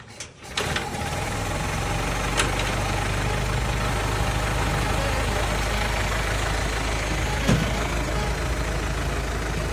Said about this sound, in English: So that pretty much does it for the dyno on the Model A. It makes a lot more horsepower than I thought it ever would.